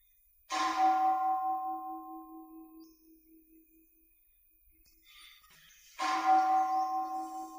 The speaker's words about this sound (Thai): ดูออกไหมใจมันหละไหวริ้วๆๆๆนะตอนที่ไม้กระทบระฆังเนี่ยมันเสียงหนึ่งนะตอนที่เสียงระฆังมันคลางเนี่ยเป็นอีกเสียงหนึ่งแต่ใจมันก็ไหวริ้วๆๆตามเสียงไป